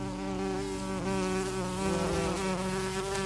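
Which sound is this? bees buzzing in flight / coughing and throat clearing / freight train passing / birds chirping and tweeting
bees buzzing in flight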